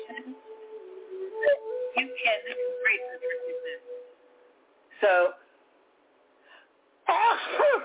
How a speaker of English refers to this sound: So I have a different kind of sneeze lately, and it's a clearing sneeze. I'm not allergic to anything, and I'm not sick.